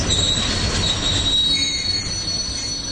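Train wheels squeal on the rails in a steady, high-pitched whine over a loud, continuous rumble of rolling railcars, with no talking.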